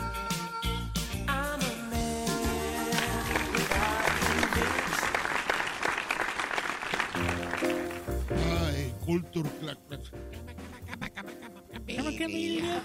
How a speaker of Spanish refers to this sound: Vamos a los aplausos. Mira, ahí está. Sí.